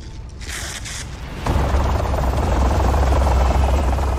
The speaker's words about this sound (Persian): هلیکوپتر پرواز کرد.